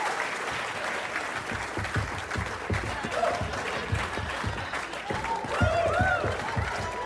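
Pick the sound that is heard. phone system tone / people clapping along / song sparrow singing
people clapping along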